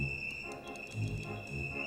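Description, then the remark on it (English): A bird chirping sound effect from a sound effects machine: a steady high, shrill chirring tone that runs throughout, with faint brief chirps flickering over it and a low rumble underneath. No one speaks. “Birds,”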